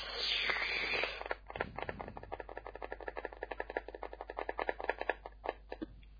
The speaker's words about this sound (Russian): Это что за звуки? Это я стучу по ноутбуку. А что, так очень громко? Я пальцами так вот стучу. Нет, не громко.